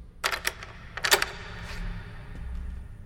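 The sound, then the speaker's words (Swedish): A prison caretaker locks a door inside a dark prison building: a few sharp metallic clicks in two quick bursts, followed by a quiet, low room rumble. “Vi tänder våra ficklampor och hör ett klick bakom oss.”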